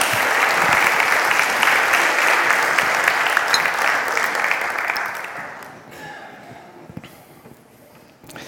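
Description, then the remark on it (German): An audience breaks into steady, dense applause for a volunteer who has come up to the front. The applause holds strong for about five seconds, then thins out and fades to scattered claps before ending. “Darf man ruhig mal einen kleinen Applaus geben hier.”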